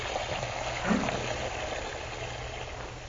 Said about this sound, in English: Mary turns the water on full force so that she won't have to answer her young son's last question.